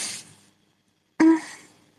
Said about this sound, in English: Now my eyes are tearing for different reason because I'm yawning.